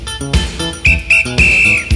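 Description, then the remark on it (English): A whistle is blown three times in a ti-ti-ta rhythm as the signal to stand still in a movement game around a room, two quick short toots followed by one longer blast, clear and fairly loud over rhythmic background music. “When you hear the whistle blow the ti-ti-ta pattern, you must stand still.”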